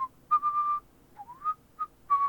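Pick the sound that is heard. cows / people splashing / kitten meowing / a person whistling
a person whistling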